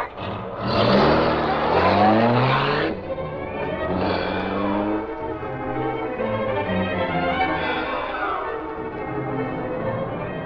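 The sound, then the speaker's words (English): A car engine roars, revving hard with rising, sweeping pitch as it accelerates away, then settles into a steady, throaty drone with no voices over it. “Step on it.”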